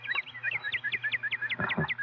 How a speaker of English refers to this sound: There you are, a cardinal. Tell them this is something pretty scarce. Trees, birds, privacy, and all only 30 miles from the city.